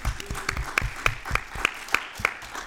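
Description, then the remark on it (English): A crowd breaks into steady applause, dense clapping filling the room, with a few sharper, louder claps standing out in a regular beat above the rest. “round of applause for the people at CrimeCon for putting this on”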